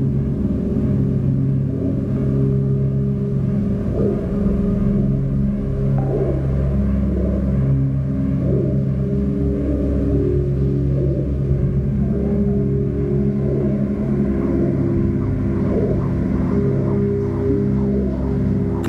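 A heavy tractor engine rumbles and revs, its deep, throbbing drone rising and falling as the wheels spin in place and the tractor rocks on partly liquefied, muddy ground, continuing steadily without any talking.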